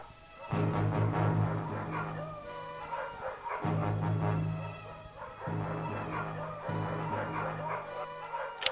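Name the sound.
dogs barking and yelping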